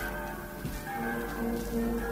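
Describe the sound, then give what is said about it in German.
Church bells ring together in a continuous, overlapping peal, a steady wash of sustained metallic tones with a broad noisy hiss beneath, moderately loud and with no voices. “Es klingen die Glocken, sie singen und schlagen.”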